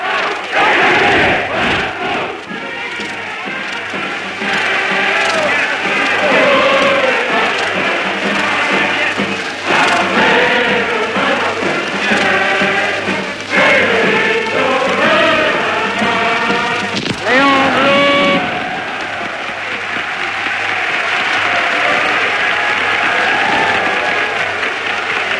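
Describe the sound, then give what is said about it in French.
In May 1936, a large crowd sings The Internationale together in a loud, sustained chorus, voices rising and falling with the melody, followed by a swell of cheering and acclaim for the socialist Léon Blum toward the end. “En mai 1936, la foule chante l'international et acclame Léon Blum, le socialiste Léon Blum.”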